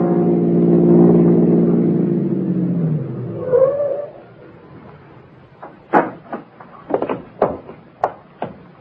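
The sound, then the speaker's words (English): The engine of a fancy foreign-make car rumbles loudly, its pitch dropping as it slows and idles down, followed by a series of sharp, separate knocks and clatters like footsteps or a door. “We'll follow it and find out a bit more about this mysterious girl and her connection with Amos Piper.”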